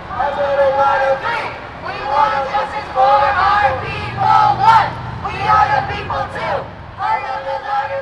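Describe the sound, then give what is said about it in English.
A large crowd of climate protesters in San Francisco, gathered at Speaker of the House Nancy Pelosi's office and marching down Market Street, chants together in loud, rhythmic bursts of raised voices while banging drums, the shouted phrases repeating steadily over continuous crowd noise. “In San Francisco, they gathered at Speaker of the House Nancy Pelosi's office and flooded down Market Street, chanting, banging drums, and calling for action.”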